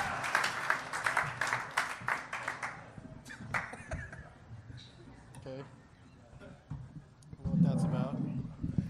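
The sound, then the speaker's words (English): An audience of about 275 people at a live comedy show claps loudly for a few seconds as guests are welcomed, the applause thinning into scattered claps before fading. Indistinct voices and murmuring follow, with a louder burst of talk near the end. “keep it real silent for a while after the clapping stops.”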